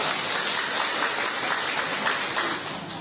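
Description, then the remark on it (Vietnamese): Steady, dense clapping from the women of a church audience, applauding the men, fills the space for a few seconds, a broad rushing texture of many hands with no voices over it, fading slightly at the end. “Rồi chúng ta các bà cho mấy ông một tràng pháo tay đi thưa”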